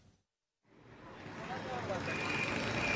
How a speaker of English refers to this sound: I'm trying to cross a busy road in India. It's 36 degrees and I'm surrounded by traffic and people. You've got auto rickshaws, cars, vans, trucks, they're all jostling for position.